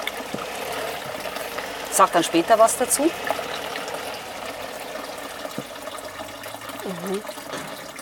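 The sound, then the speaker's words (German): Water splashes and trickles as the third water sample in a tasting is poured into a glass, a short gurgling burst, with quiet speech before and after against a soft background hiss. “Jetzt kommt das dritte Wasser. So, da kommt das dritte.”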